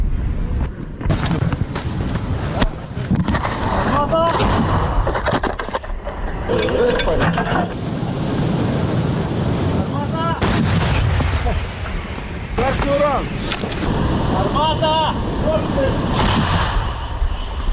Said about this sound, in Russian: Расчет гаубицы М777, которую украинские военные называют «три топора», действует как слаженный механизм.